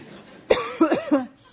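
A person coughs in a quick fit of about four harsh bursts, the first sharp and the rest tumbling after it, then quiet.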